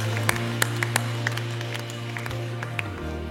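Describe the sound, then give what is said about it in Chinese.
Scattered, irregular hand claps from an audience standing up to give applause and glory to God, sharp and fairly loud, over a steady low sustained tone like a held organ or keyboard note. “If you believe that, 如果你相信的话，我们可以拍手站起来，将掌声、将荣耀归给我们的神。”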